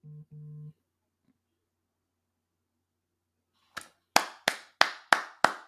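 applause sound effect

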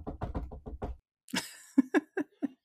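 knocking on a wall

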